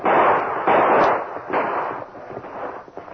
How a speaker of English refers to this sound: Now they've got horses and guns. Yes, and they've seen the flashes of our guns. They know the shots came from this hill.